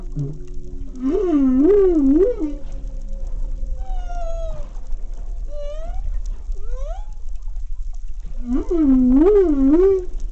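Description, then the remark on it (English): Humpback whale song: long, wavering moans that rise and fall in pitch, with shorter upward whoops and swooping cries between them, heard alone over a low, steady underwater rumble. “If you've thought about ocean sounds before, you might have thought of these singing mammals, the humpback whales.”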